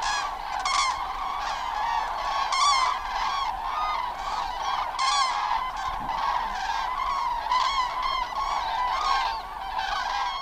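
A large flock of common cranes, troops of 400, 600 and more, calls continuously in the evening on the dike at Garz. The cranes are coming from fields west of the Oder to their roosts. Many loud, trumpeting, bugle-like cries overlap in a dense chorus without pause, with no voices present.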